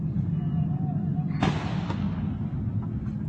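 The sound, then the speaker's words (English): Police officers of Congressman Steve Scalise's protection detail fire back at a suspect: a loud, sharp gunshot cracks out, followed half a second later by a second, weaker shot, with a faint pop after that, all over a steady low rumbling background noise. “If he would not have been there, if Congressman Steve Scalise would not have been there, those are the police officers firing back, I believe, at the suspect.”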